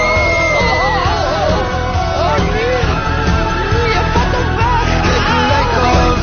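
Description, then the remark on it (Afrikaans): A monster with dead eyes and dead skin, coming out of a box, screams loudly and continuously for several seconds, its harsh, wavering howls rising and falling in pitch over a dense, noisy background. “En daar kom een monster uit. Met dooie oe, een dooie vel en een onverzorgde voorkom. En hy gil.”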